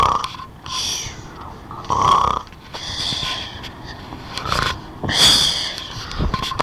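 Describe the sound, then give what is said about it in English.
A voice imitates a big bird snoring: several loud, rasping, breathy snores in a slow rhythm with snorting, wheezy exhales between them. “The big bird's eyes started to close. And suddenly she was snoring.”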